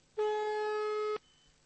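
A single one-second burst of a steady ringing tone on an outgoing telephone call that is not being answered, a clean, buzzy pitch that starts and stops abruptly and is heard clearly with no talking.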